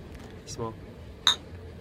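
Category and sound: household object, beer glasses clinking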